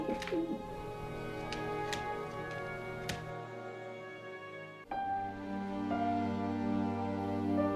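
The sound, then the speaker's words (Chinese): Pigeons across the street coo softly and continuously while bobbing their heads, a low burbling murmur with a few faint clicks and taps, pausing briefly midway before resuming at a steady, moderate level. “街对面的鸽子们很快上下点着脑袋咕咕直叫，”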